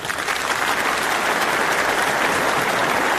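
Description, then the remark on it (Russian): Steady, restrained applause from a hall audience after a poem reading, beginning only about a minute later, many hands clapping together at a moderate, unhurried level with no cheering or shouting, sustained throughout. “Аплодисменты начались, вероятно, только через одну минуту, и были они какими-то сдержанными, я бы сказал, гордыми аплодисментами.”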